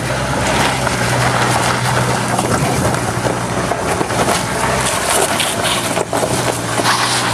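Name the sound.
car driving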